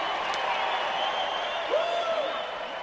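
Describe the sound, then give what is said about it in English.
A large convention crowd cheers and applauds in a dense, steady roar of clapping and voices, with one rising whoop cutting through near the end, as Illinois casts 54 delegates for Donald J. Trump for the GOP nomination. “After the cheering died down, I overheard a woman saying, "Take that, mainstream media."”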